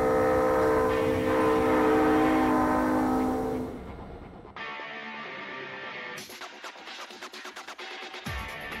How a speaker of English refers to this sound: This led to the invention of the chime horn, imitating the sound of the old steam whistles, making trains sound like trains again.